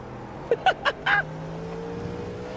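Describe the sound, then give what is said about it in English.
A steady, droning car engine hums throughout at moderate volume, with its pitch slowly shifting, while a quick cluster of sharp, brief bursts early on suggests other race cars rushing past. “The hell is rocket ship passing? Are those the other cars?”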